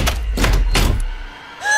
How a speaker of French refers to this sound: Porte verrouillée.